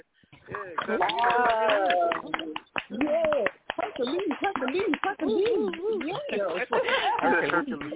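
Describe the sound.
Hand clap and cheering sound effects played from a sound setup: a dense burst of hand claps keeps snapping along for about eight seconds, loud and irregular, mixed with whooping, cheering voices that rise and fall over the clapping.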